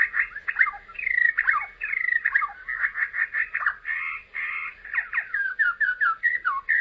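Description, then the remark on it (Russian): A bird sings continuously, running through varied whistled phrases, sliding notes and quick repeated trills for several seconds, with no voices. “Ученых-орнитологов всегда интересовало, как птицы поют, а не почему они поют.”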